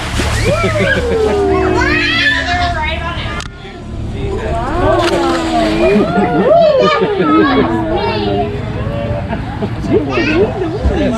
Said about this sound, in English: He's gonna jump to that hoop and ring a bell for you guys. There will be a splash right about now.